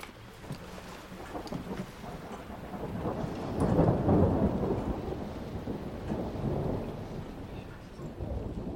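Heavy rain pours steadily, a dense hiss with a deep rumble underneath that swells louder around the middle before easing back, like a storm.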